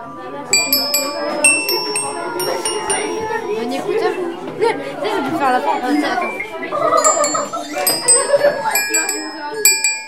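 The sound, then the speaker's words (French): Bright metallic chimes, rung by schoolchildren with their music teacher, ring out in repeated clusters of clear, sustained tones, struck irregularly over a busy background of voices and children's chatter. “Avec le professeur de musique, les élèves ont fait teinter les carillons.”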